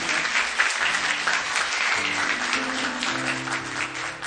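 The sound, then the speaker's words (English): A church audience applauds for two children, a dense wash of many hands clapping at an even loudness for several seconds, with no voices breaking through. “Would y'all clap for them too?”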